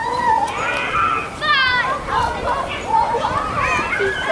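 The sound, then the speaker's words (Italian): Lively crowd of children playing outdoors in an elementary school courtyard, with overlapping high-pitched shouts, chatter and squeals filling the space at a steady, fairly loud level. “Nel cortile di questa scuola elementare i bambini sono felici di ritrovarsi.”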